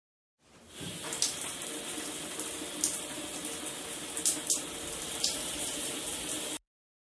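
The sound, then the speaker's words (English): Water from a shower runs in a steady hiss for about six seconds, broken by a few faint splashes, then cuts off abruptly. “I have a shower and brush my teeth.”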